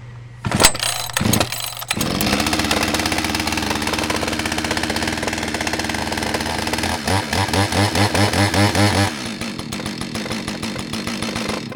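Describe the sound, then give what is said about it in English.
A chainsaw engine, with its choke pushed down, primed three times and its decompression valve pressed, sputters to life after a couple of sharp pull-start bursts, then runs loudly, revving up in pulsing surges before settling back to a steady idle. “Never try to start a chainsaw or any engine without an adult.”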